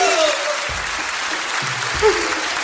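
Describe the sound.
A crowd claps steadily in dense, sustained applause that fills the whole moment, with a faint voice or whistle briefly rising over the clapping.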